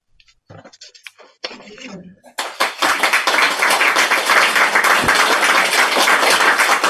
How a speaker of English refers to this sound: Thank you. It's very helpful if you clap because I know I'm at the end of the poem then, you see.